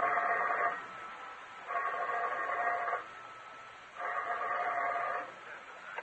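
A telephone rings in an apartment shortly after 11 o'clock at night, in three steady bursts, each about a second long with short pauses between, fairly loud, with no voices.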